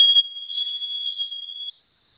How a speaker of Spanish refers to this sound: No se quita. Ok, esa clave, esa alarma en un momento se va a quitar.